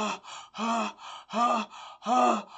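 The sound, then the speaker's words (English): A voice performs exaggerated, tired panting: about four loud, voiced, breathy huffs, each followed by a softer intake of breath, in a steady heaving rhythm, with no other sound. “I mean, as believers, we can fight one simple, silly devil. And we're tired, we're panting.”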